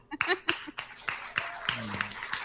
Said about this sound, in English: All right. They're clapping.